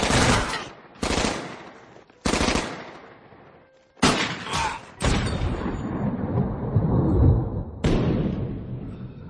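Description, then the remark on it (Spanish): A rapid burst of gunfire: several loud, sharp shots in quick succession, followed by a heavier volley with booming echoes, with no voices; a group of agents shooting John Dillinger in the back outside a Chicago cinema on 22 July 1934. “La tarde del 22 de julio del 34, Dillinger, a la salida de un cine de Chicago, cae abatido a tiros por la espalda por un nutrido grupo de agentes.”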